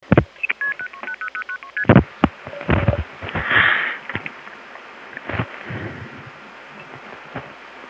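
A quick run of touch-tone beeps as a phone number in the 919 area code is dialed for a call to Beaufort, North Carolina, about a dozen short tones in a row, followed by clicks, a brief ringing tone and crackly line noise.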